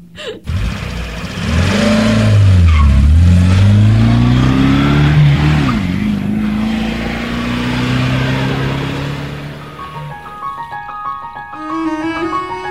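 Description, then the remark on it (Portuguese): A bus engine revs loudly up and down in pitch as the bus arrives, then settles into a steady drone as it pulls off, followed by a short burst of tones near the end. “Olha, o ônibus chegou. Preciso partir.”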